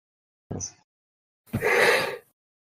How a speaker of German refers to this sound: Und es wird wieder gegähnt.